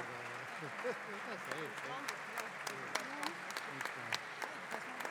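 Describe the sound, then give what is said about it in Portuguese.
Steady applause from many hands in a parliament chamber, a dense patter of claps with sharper individual slaps, while murmured voices carry underneath throughout. The parliament is greeting visiting members and committee staff of the National People's Assembly of Guinea-Bissau seated in Gallery 2. “Também batemos palmas, Presidente, não?”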